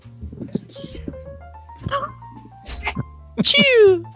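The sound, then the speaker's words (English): A single loud sneeze bursts out near the end, sharp and then trailing off, after a stretch of muffled voices and background murmur. “I just sneezed.”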